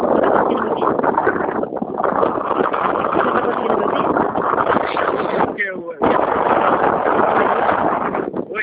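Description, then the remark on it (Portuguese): Loud, continuous wind buffeting the microphone, a heavy roaring rumble that fills the whole stretch with only a brief lull about two-thirds of the way through. “Oi, eu estou com um vento passando, passou um vento.”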